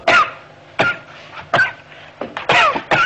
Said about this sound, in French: Et pourquoi tu tousses ?